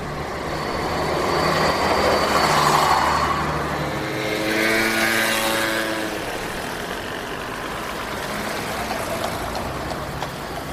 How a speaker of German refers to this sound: Eine Insel inmitten des tosenden Verkehrs. Busse, Motorräder und Pferdekutschen drängen sich durch die Stadt. Palma steht, was den Verkehr und Lärm angeht, vielen Metropolen nicht nach.